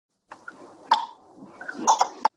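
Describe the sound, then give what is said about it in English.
A voice imitates a cricket ball leaving the bat as it is pushed towards extra cover, making breathy mouth noises punctuated by a few sharp, clicking pops. No words are spoken. “can you make the sound of the ball leaving the bat as you push it towards extra cover?”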